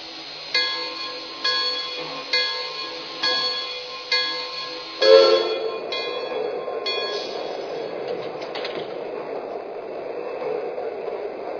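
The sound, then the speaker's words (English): Passenger train number two, the George Washington, on track one at a station, with Cincinnati announced: a bell clangs at a steady, slow pace for several strikes, then gives way to a loud, continuous rumble and hiss as the train moves. “Cincinnati on track one. Train number two, the George Washington.”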